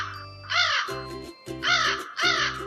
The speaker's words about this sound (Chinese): 我去露营的时候都会很早起床， 是被乌鸦吵醒的啦，嘎嘎嘎，好大声哦。